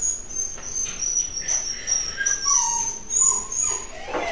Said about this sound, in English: Well, between all the gay jokes, alluding to a lot of things and the dog whimpering in the background, I think this is a good podcast.